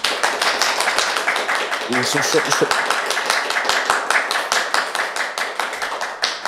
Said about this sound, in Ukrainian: Ваші оплески. Андрій Іванович Садовий.